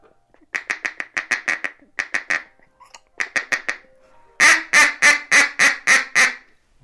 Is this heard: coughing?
no